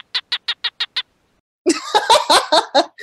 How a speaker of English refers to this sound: the males will stick their little stubby heads out of their dens and bark, making these little chirping noises to seduce females and convince them to come to them to mate and lay her egg.